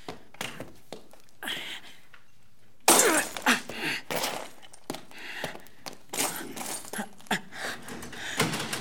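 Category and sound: impact, glass window being smashed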